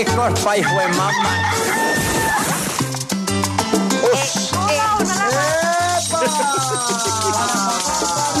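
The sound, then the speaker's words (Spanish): Repeated rooster crows, the rooster of Radioactiva radio, ring out over loud, steady rhythmic music with a thumping bass line, the crowing sweeping up and down several times, prominent. “Lo peor y lo menos peor del 2022 con el gallo de Radioactiva.”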